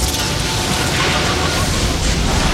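A proton pack worn on the back fires a continuous, loud roaring blast of crackling energy from a swaying boat, holding steady for a couple of seconds, dense and harsh, with no voices over it.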